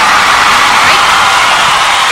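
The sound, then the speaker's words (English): A loud, sustained crowd cheer, a dense roar of many voices yelling and whooping at a steady level for a couple of seconds without letting up. “The crowd loves it. That was a really loud cheer.”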